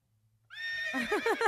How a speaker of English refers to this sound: However, that is that the Beauty and the Beast horse, or is that just a regular horse? Oh, only the best for you, honey. It's straight out of the Disney classic, The Beauty and the Beast.